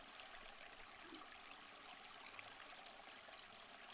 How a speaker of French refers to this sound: Vous arrivez vers la rivière, vous l'entendez couler. Regardez son eau qui brille de toutes les couleurs.